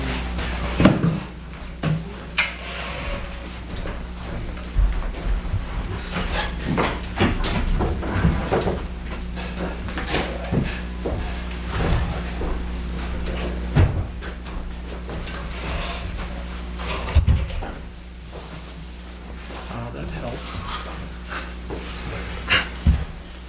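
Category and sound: household object, door being opened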